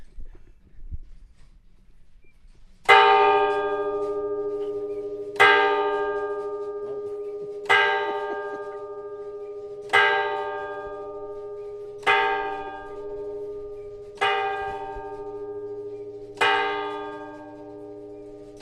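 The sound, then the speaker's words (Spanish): A church bell in the town of Orrio tolls after the clock is set to 12: seven loud, resonant strikes spaced about two seconds apart, each ringing out and decaying over a low sustained hum, with no talking. “Es decir, poner el reloj a las 12 y que suenen las campanas.”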